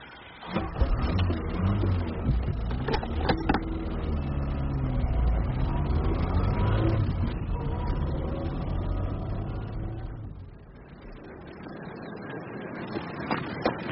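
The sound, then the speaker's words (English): A car engine turns over with a few sharp clicks, then rumbles steadily at a low pitch before easing off as the vehicle pulls away. No voices. “He's getting into his car.”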